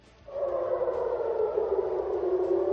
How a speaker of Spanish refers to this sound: Así sonaban las sirenas de alarma.